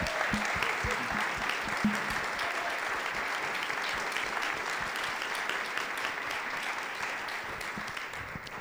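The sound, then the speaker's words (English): A crowd applauds people who run nonprofits in Franklin County as they stand, a dense wash of clapping that holds at an even, fairly loud level for several seconds before easing slightly at the end. “If you run a nonprofit, will you stand up and accept the appreciation of this crowd, please?”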